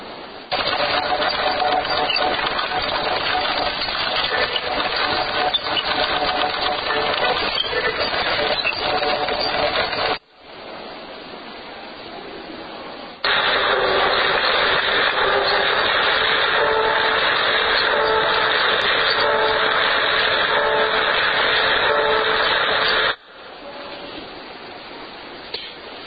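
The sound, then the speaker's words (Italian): Electric fans played as musical instruments, with loud, steady whirring drones layered into sustained pitched tones that switch abruptly between sections, briefly dropping to a quieter hum before surging back. “In realtà, adesso vi faccio vedere questa cosa, i ventilatori sanno fare molto di più che fare aria.”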